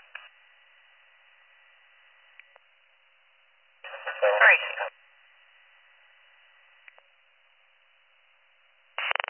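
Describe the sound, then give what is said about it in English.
A brief fire dispatch alert tone, sent on the primary mutual aid channel for a rescue call, crackles over a band-limited radio channel midway through, set between faint static hiss and short squelch bursts, with another transmission cutting in at the end. “Hit our tones in primary mutual aid and we'll start responding.”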